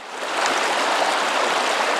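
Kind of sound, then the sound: nature, flowing river stream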